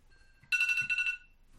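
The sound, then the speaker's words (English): A mobile phone ringtone bursts out loudly for about half a second, a bright warbling electronic melody with a brief low thump in the middle, then cuts off abruptly. “My phone went off.”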